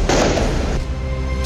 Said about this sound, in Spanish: Ahí ustedes escuchaban entonces cuáles eran las características de los petardos, las bengalas, los fuegos artificiales que se utilizaron, hay que decirlo, lanzándolos de manera vertical pero también horizontal hacia Carabineros